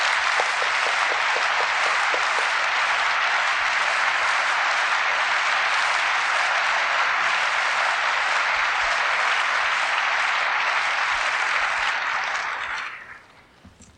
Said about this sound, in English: would you stand and let this audience clap?